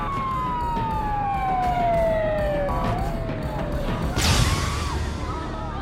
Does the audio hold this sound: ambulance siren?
yes